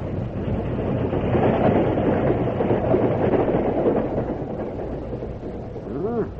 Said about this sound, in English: The express is coming. Yeah, the local ought to be coming along soon, too. Yeah. A few minutes later, the express train rushed by.